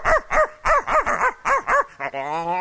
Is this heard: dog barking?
yes